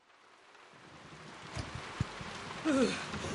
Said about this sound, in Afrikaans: ek kan nie glo dit het so vinnig so hard begin reën nie.